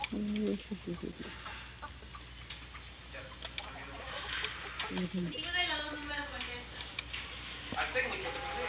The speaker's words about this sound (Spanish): Ay, gallina.